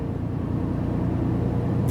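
A truck's heavy engine drones steadily as the driver accelerates, signals left and pulls out on the road, a deep continuous rumble with road noise; no one speaks.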